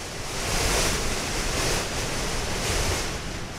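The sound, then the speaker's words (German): Strong wind roars steadily across an open, icy glacier during a mountain ascent, a dense rushing noise that swells and eases in gentle gusts, loud, with no voices. “4 Wochen lang ist der Wind unser ständiger Begleiter und wird häufig auch zum Feind.”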